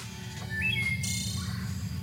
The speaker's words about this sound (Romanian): Auzi mereu aceleași rândunele plictisite?